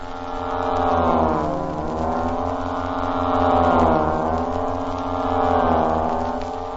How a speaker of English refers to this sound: Every sound you hear will be produced by his accordion only. In the distance, we hear a giant bomber. The dull drone of four motors revolving at maximum speed as it wings into the sky.